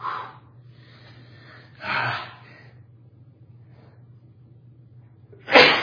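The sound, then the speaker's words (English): A couple of sharp inhaled gasps build up to a loud sneeze at the end, in the OPBC homeschool room, known as the Cooley Academic Center, over a steady low hum with no talking. “I think I'm going to sneeze again.”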